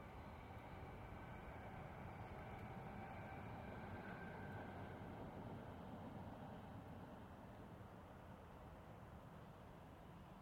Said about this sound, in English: You would think that that train was just a couple of hundred yards in front of me. It's not. And I know which direction it's going, so I know that within about a minute or two it'll be travelling through my childhood haunt areas.